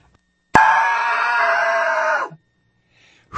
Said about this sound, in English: Excuse me while I scream. Hold on just a minute.